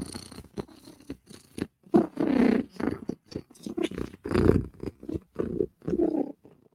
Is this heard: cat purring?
yes